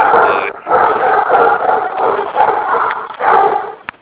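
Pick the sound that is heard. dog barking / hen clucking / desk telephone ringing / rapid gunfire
dog barking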